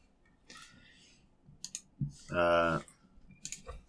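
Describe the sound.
A few scattered bursts of sharp keyboard clicks, a quick pair and then another short cluster, broken up by a brief loud voice sound in the middle.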